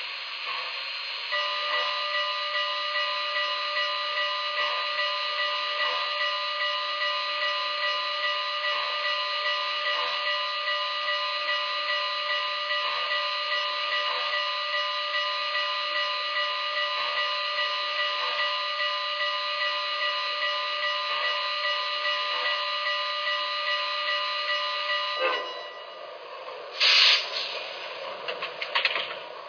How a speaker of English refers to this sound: New York on track one. Train number 17, the Wolverine.